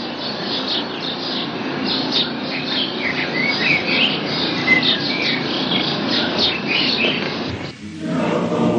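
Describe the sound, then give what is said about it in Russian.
A dense chorus of many birds chirping and tweeting at once, steady and fairly loud throughout, with a brief dip near the end before the chatter resumes. “А по небу полетело множество птиц.”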